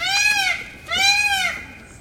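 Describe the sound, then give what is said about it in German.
A peacock screams twice, two loud, nasal, wailing calls about half a second each, separated by a brief pause, with no one talking. “Ich höre es hier nur schreien, aber ich sehe den Vogel nicht, der da schreit.”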